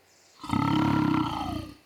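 A single deep, rumbling lion roar, loud, swelling quickly and holding for over a second before fading out, with no other sounds around it.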